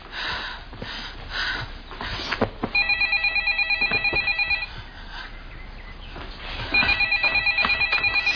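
A telephone rings in two trilling bursts separated by a short pause, each a rapid warbling pulse, with rustling background noise before the first ring.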